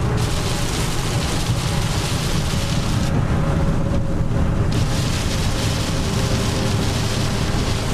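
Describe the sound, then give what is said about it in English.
Heavy rain drums steadily on a moving diesel-powered vehicle driving through standing water, heard from inside as a dense, unbroken roar with a low engine rumble underneath; the hiss briefly thins for a moment midway, and no one speaks. “So you can sort of hear the amount of rain that's falling.”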